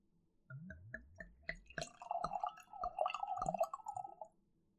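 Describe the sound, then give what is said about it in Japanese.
Liquid glugs from a bottle (not an expensive one) into a glass as a drink is poured for the speaker, starting with a few distinct gulping bursts and settling into a steady pour with a rising pitch as the glass fills, clear with no talking. “お、今度は眷属くんがお酌してくれるのかい？”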